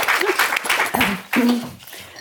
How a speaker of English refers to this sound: Oh yeah, yeah, you do deserve a clap.